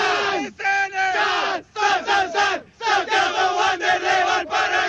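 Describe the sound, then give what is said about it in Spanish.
A small group of Wanderers fans shouts the 'grito de Wanders' chant in unison, live for the radio: loud rising and falling vocal bursts separated by brief pauses, with strong harmonic voices throughout. “¿y es posible que hagan ahí el grito de Wanders, por lo menos?”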